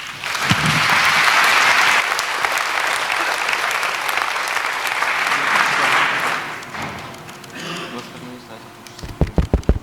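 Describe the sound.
Loud, sustained audience applause welcoming a physicist before his talk on long-distance quantum cryptography communication, with dense clapping that holds steady for several seconds, then thins out and fades, followed by a voice beginning to speak at the end.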